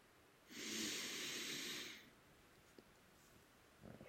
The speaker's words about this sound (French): Nous pouvons également prendre quelques inspirations profondes pour revenir ici et maintenant.